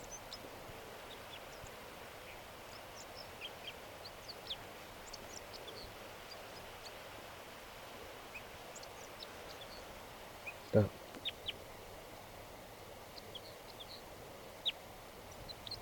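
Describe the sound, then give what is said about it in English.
A crossbill sings from a tree behind a net in a quiet, scattered series of short, high chirps and twitters over soft background hiss, with one sharp click partway through. “A crossbill just, I just noticed that it's singing here in the tree behind the net.”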